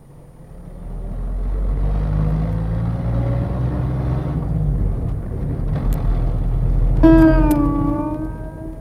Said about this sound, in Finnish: Saatamme esimerkiksi nyt juuri kuulla auton surinaa.